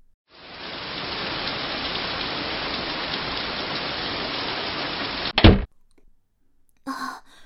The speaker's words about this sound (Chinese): 外面在下雨，记得带伞哦。